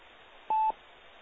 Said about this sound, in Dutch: Er gaat hier even een brandalarmpje op. Ik moet hem even zien zetten. Oh, er is hier geen ladder. Oh, leuk. Goed. Moment, ik probeer hem even uit te zetten.